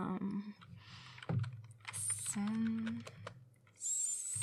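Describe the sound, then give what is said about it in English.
Rapid, uneven clicking of fingers typing on a computer keyboard, with a faint voice and some muffled background noise underneath. “Just give me the keyboard. I am going to show you something.”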